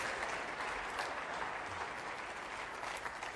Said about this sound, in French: Allez, applaudissez-le, il y a juste lui qui peut le faire.